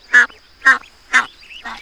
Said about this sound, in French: ça, c'est une canne et ses petits qui barbotent dans la mare. Comme elle fait can-can-can, on dit qu'elle cancane.